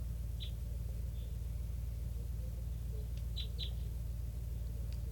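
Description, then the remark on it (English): A flock of what sound like pure type 3 birds, a bunch of very young juveniles by a net, gives short, high chip calls, a few scattered notes and then a quick pair, over a steady low rumble of background noise. No one speaks. “And it's a flock of, sounds like pure type threes.”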